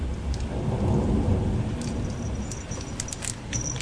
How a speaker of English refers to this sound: Thunder! It is thunder.